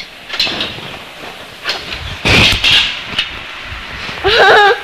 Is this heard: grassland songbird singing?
no